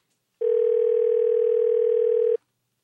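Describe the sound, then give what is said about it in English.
A steady telephone dial tone hums for about two seconds, a single sustained pitch that starts and stops abruptly, loud with no voices, as a person places a call to their own phone line. “As a matter of fact, since I haven't enticed anybody to call me, I'm just going to call myself and hear what I sound like in tape delay just for fun.”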